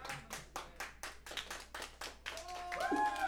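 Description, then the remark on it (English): An audience claps in a steady, brisk rhythm, about four or five sharp claps per second, fairly loud throughout, with a voice rising over the clapping toward the end. “Clap for everybody.”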